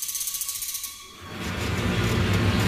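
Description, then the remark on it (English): A wicker lobster pot creaks as fishermen haul it up from above, first as a quick run of dry, ratcheting clicks, then swelling into a louder, rougher grinding strain that keeps building to the end. No one speaks. “The basket work creaked.”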